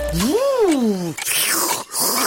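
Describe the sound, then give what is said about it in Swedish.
A voice imitates a snowblower with three separate sounds in a five-second game round: a loud droning whoop that rises and falls, a higher swooping whine, then a short breathy, hissing rush. “säg 3 ljud en snöslunga gör.”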